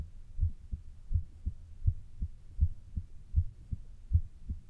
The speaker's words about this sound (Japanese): ねえ。聞こえる？私の心臓の音。トクン、トクンって。ほら。